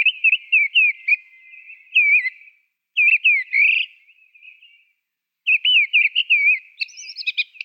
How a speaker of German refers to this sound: Und das ist die Misteldrossel. Richtig. Und ich würde sagen, bevor wir viel reden, werde ich sie mal abspielen.